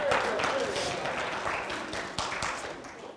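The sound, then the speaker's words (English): An audience applauds steadily, a dense wash of many hands clapping at once, fairly loud and sustained for a few seconds, with faint crowd murmur mixed in. “A round of applause”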